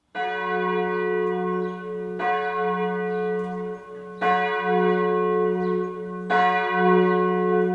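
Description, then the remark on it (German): A bell of the church in Hochstädten tolls slowly and steadily, striking about every two seconds, each loud stroke ringing on with a rich, humming resonance that overlaps into the next. No one speaks. “Der Schriftenreihe Anno Dazumal ist ein ausführlicher Bericht über die Glocken der Kirche in Hochstädten enthalten.”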